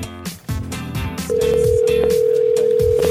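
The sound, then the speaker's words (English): After a moment of mixed background sound, a loud, steady mid-pitched ringing tone of an outgoing phone call, placed by The Buzz radio show in Rochester, starts and holds unbroken to the end. “And we're calling him right now.”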